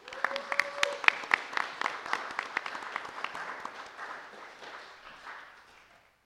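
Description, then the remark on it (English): An audience applauds girls being presented with Bibles, breaking into a dense patter of many hands clapping that starts brisk and strong, then gradually thins and fades away over several seconds. “Everyone give these girls a round of applause.”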